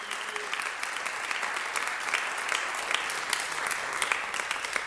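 An audience claps for the Lord after a healing testimony, a dense wash of many hands with quick crisp pops scattered throughout, holding an even level for the whole stretch with no voices standing out.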